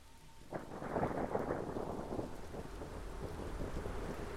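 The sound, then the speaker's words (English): A thunderstorm: a heavy roll of thunder breaks in near the start and rumbles on over a steady wash of falling rain, with no voices. “She just knocked on the door of our replica home, and a storm was coming.”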